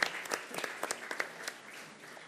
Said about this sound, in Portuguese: As palmas são naturalmente agradecimento pela presença do Senhor Presidente, que nos honra com esta estadia aqui entre nós